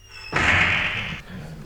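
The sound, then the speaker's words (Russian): A school classroom door, shoved open with a running shoulder, bangs hard against the wall in a loud slam, nearly torn off its hinges, its crash ringing and rattling for nearly a second before dying into quiet. No one speaks. “От моего толчка дверь едва не сорвалась с петель и врезалась в стену.”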